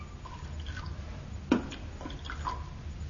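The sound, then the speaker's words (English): The last small amount of drink left is poured into a glass: a brief splash followed by a few light, high drips over a steady low rumble, with no voices. “We've just about got enough left to wet the glass.”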